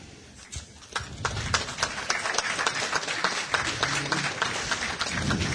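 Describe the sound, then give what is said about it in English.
An audience applauds, a dense patter of many hands clapping that swells in after a brief quiet start and holds steady for several seconds with no voices over it. “You may clap now.”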